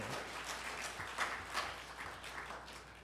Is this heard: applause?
yes